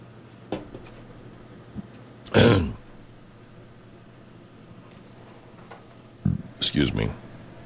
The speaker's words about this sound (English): Excuse me, I belched.